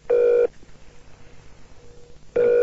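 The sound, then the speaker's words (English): A telephone ringback tone heard down the line on a call to Sean Connery at home: two steady, buzzy rings about two seconds apart, with faint line hiss in the quiet gap between them. “Okay, there we go, it's ringing.”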